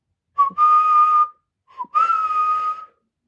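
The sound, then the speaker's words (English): Two clear whistled phrases, each opening with a quick upward slide before holding a long steady note, separated by a short pause: the hurrah note of 'The Ants Go Marching', whistled from the leaves of a bush with tiny white flowers. No voices. “The hurrah note in the ants go marching whistles from the leaves.”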